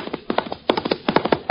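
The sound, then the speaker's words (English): Horse hooves of the Pony Express galloping in quick, rhythmic clusters of hollow thuds, steady and fairly loud, with no voices over them. “It is the Pony Express speeding news across half a nation.”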